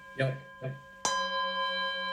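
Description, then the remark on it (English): A timekeeper strikes a small bell once to start a one-minute meditation, a single bright, loud strike ringing on with a steady sustained tone that barely fades. Two brief vocal sounds come just before it. “And I have a bell that starts it like that. Can you hear that?”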